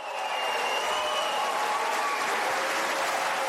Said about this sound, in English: Wow. Did you hear that applause? I mean, that's real. That's sentiment. That's a gut check, right? In Germany, no less, where the people seem fed up.